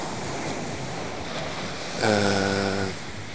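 sea waves

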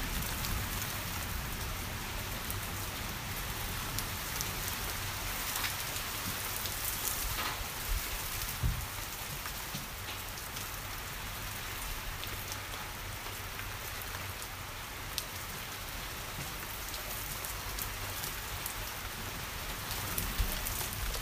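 steady heavy rain

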